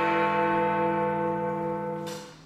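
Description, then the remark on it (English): Big Ben, the clock tower bell, rings out with a deep, resonant tone and rich shimmering overtones that hum steadily and slowly fade, before another stroke begins right at the end. “But it turns out Big Ben's reputation for reliability has taken a bit of a hit.”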